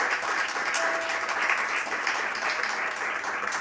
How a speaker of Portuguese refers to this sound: Uma salva de palmas para a Rumo, não quer demais, 30 anos.